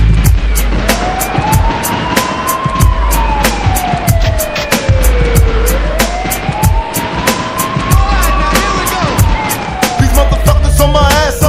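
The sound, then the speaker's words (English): A police siren wails in two long, slow rising-and-falling sweeps, clearly audible over a loud, thumping beat with heavy bass and sharp percussive hits throughout. “Is it a bust? I hear the sirens, run for cover.”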